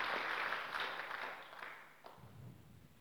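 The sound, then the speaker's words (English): An audience at a preaching event claps together for Jesus Christ in a dense burst of applause that gradually thins and fades, with a voice starting to speak low underneath as the clapping dies away. “Will you clap for Jesus Christ.”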